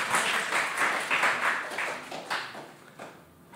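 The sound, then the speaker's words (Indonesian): Audience applause for an impromptu drama skit, a dense patter of many hands clapping at moderate volume, swelling in bursts and then thinning out toward the end. “Berikan tepuk tangan pada drama dadakan ini.”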